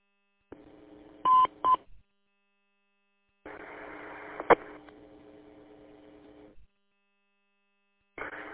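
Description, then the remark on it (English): Electronic radio repeater beep tones: two short bright tone bursts, then a longer buzzy stretch of hiss and tone with a sharp click, before the signal cuts out and briefly returns at the end. “I think you tightened up the repeater. It was a beep in there quite a little bit, and then it just kind of cut out there, but, yeah.”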